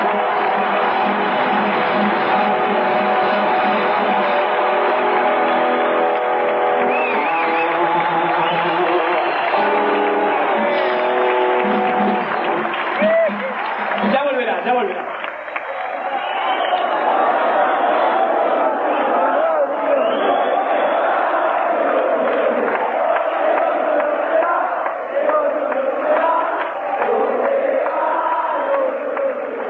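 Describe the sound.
A concert audience applauds and cheers loudly and steadily for about thirty seconds for a saxophonist in the band, with shouting voices mixed in; the clapping grows denser and noisier in the second half.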